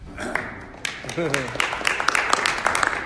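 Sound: group clapping hands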